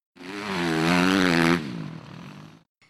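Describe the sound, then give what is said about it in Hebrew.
A small motor engine, like an ATV quad bike, revs up loudly and holds a buzzing, wavering whine for over a second, then drops to a rougher idle before cutting off. “טרקטורונים, כל מיני דברים כאלה.”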